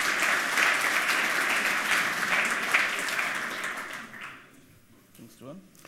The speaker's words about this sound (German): Ja, einen herzlichen Applaus